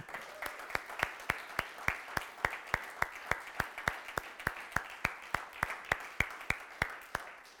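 A church audience applauds to welcome first-time visitors, with sharp claps falling in a steady, even rhythm over a softer wash of scattered clapping. It carries on for several seconds with no voices.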